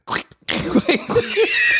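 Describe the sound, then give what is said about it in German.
A squeaky, fart-like rubbing noise in several short squeals and bursts, fairly loud, with a brief pause after the first burst. “Also zum Beispiel so mit so zwei Tonschuhen aneinander reiben, so, die sich natürlich komplett anders anhören.”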